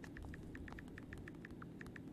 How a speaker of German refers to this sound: Für die, die jetzt ganz leise hören, das ist das Tipp auf dem iPhone, gell?